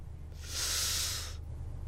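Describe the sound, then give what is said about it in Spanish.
A single sustained hiss of breath forced through clenched teeth, lasting about a second, fairly loud over a faint low background hum, with no talking. “¿Entre los dientes?”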